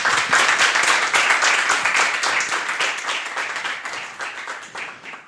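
An audience applauds warmly to welcome a speaker about to report on the IOCCC contest. It is a dense wash of many hands clapping that holds steady for a few seconds and then gradually thins and fades toward the end.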